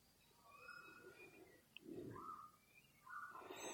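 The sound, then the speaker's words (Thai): Birds call softly in the background with short, faint chirps and warbles scattered through a quiet outdoor ambience, alongside a few low rustling sounds. “มีเสียงกระทบหูเสียงนกก็ทิ้งไว้ที่หูรับรู้รับทราบโดยใจเป็นกลาง”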